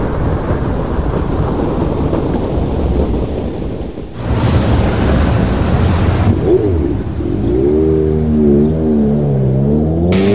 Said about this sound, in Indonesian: Bayangkan tenaga mesin 150cc yang powerful berpadu dengan desain motor yang sangat tangguh.